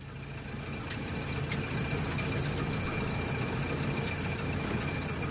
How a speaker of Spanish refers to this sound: Obscurece. El conductor prende los faros del coche. El vehículo da tumbo sobre una vereda que bordea Tapachula, Chiapas